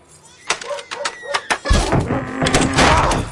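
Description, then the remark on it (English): A door rattles and creaks in a few sharp bursts, then slams into a loud, grinding clatter that keeps scraping and banging for a couple of seconds, harsh. “I fix that door, okay?”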